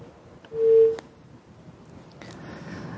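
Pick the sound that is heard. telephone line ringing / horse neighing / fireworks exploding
telephone line ringing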